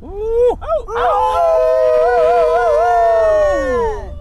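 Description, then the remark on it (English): Several people wearing plush wolf hats howl together in imitation of wolves in the dark, cheering on a runner, their long, wavering voices rising and holding for a few seconds, loud, with a few short whoops at the start. “We're howling and wearing plush wolf hats because our team is named Wolf Taco.”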